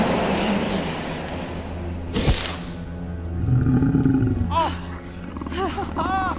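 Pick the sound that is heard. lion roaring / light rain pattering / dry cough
lion roaring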